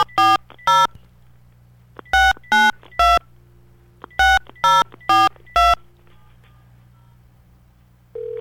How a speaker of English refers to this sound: Whoop, if we can dial a phone. Here we go. Is your phone about to ring at home?